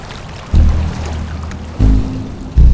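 Strong stormy gusts of wind buffet outdoors at the Étang de Barandon pond in Lozère, 1200 metres altitude, surrounded by forest, in heavy, low rumbling bursts, with small waves lapping at the water's edge beneath them. There are no voices.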